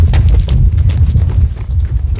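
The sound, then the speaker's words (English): Several sets of feet crunch along the floor of an old gold mine tunnel in the dark in an uneven, overlapping rhythm, each step a short gritty scrape over a loud, steady low rumble. No one speaks. “And you're walking through the black, and all you hear is like the sound of our feet crunching.”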